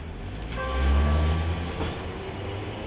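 A train rolls along the rails with a deep, steady rumble and a faint humming whine that swells briefly, then settles back into a continuous low drone.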